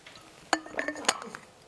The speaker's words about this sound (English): All right, I'm going to take another drink of water.